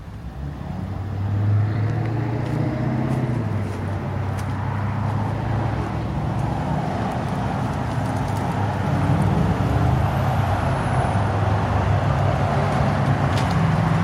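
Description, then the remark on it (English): Steady roadside traffic noise: a continuous low engine rumble and tire roar from passing cars, loud and holding level for the whole stretch with no voices. “Okay, so it's a car behind me and some car over there.”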